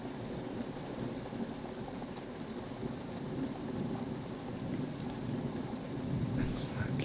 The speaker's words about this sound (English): Come on, take a look out the window. I mean, the rain's kind of beautiful. Maybe we can see some lightning strikes.